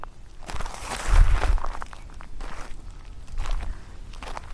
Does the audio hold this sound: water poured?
no